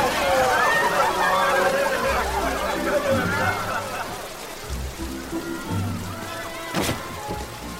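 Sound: rain falling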